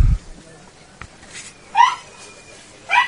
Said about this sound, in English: Oh, that's the puppy.